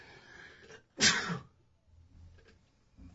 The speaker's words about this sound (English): We need some kind of a sneeze filter.